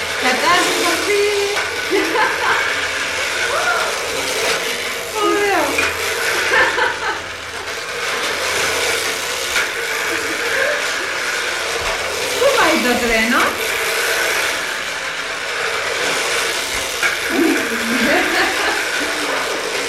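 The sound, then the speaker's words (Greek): A toy train with a wagon runs on its track with a steady, continuous whirring motor hum lasting throughout, while children's voices and occasional chuckles rise over the buzzing. “Βάλ' το μπροστά τώρα για να το πάρει το τρένο το βαγόνι, να τρέχουν μαζί.”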